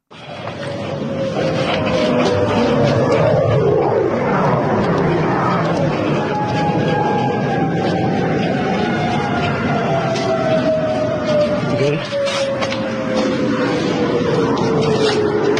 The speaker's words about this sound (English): Listen how haunting that is. Listen to those air raid sirens.